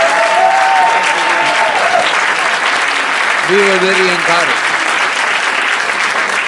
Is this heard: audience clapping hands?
yes